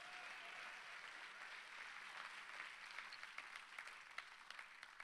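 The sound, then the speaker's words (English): A crowd claps together at the speaker's request in a steady wash of applause, many hands overlapping into a dense, continuous patter with a few sharper claps standing out near the end. “Clap your hands again while I get a drink of water.”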